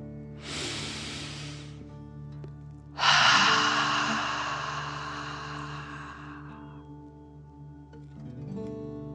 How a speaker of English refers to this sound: Remember to breathe in through your nose, filling up your belly, and then out, pretending you are breathing fire. Deep breath in and out.